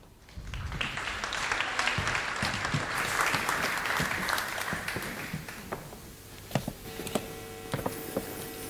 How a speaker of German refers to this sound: Bitte einen großen Applaus für beide.